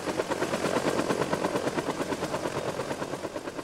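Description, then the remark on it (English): A Huey military helicopter, the kind used in the Vietnam War, thunders noisily and clunkily, its rotor blades chopping out a rapid, steady beat over a dense roar of engine noise, loud and unbroken for the whole stretch. “They would be the ones in the Huey, the ominous military chopper used in the Vietnam War. Noisy and clunky, my parents made their presence known.”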